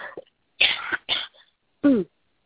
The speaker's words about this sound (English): I do apologize. I'm having a little bit of a coughing fit.